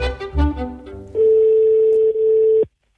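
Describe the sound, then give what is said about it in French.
A quick run of phone dialing tones as a caller phones a property owner, then one long, steady ring tone that stops abruptly. The sound is loud, with no voices. “Là aussi, je contacte le propriétaire, mais cette fois par téléphone.”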